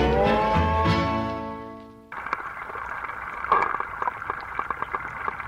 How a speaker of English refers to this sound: You're tuned into the sounds of Zach Poff's Pond Station at Wave Farm in Acre, microphones at the bottom of the pond, recorded earlier today. You can tune in the Pond Station live at WGXC.org.